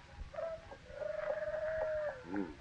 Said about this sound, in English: Is that a hoot owl? Come to think of it, I never heard anything sound so much like a hoot owl. A little too natural.